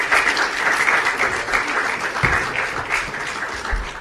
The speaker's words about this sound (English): Let's, as usual, give them another round of applause.